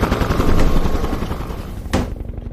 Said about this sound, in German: Den Krach machen der Motor und der große Rotor mit den Blättern. Meinst du den Propeller in der Mitte? Genau. Beim Hubschrauber nennt man den Rotor.